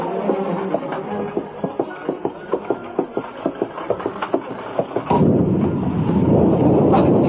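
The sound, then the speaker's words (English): A steady rhythmic clatter runs for several seconds, then a loud crash of thunder from a violent storm breaks in and rolls on heavily to the end, drowning everything else. “It would seem a storm has overtaken us on our way home”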